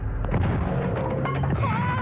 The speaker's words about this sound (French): poussez-vous, j'enfonce la porte.